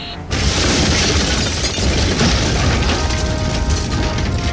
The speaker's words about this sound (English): It exploded across the wheelhouse, killing the soldier. We were prepared for that and didn't lose our footing.